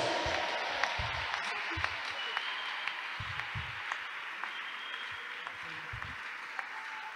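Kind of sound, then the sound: crowd, audience clapping hands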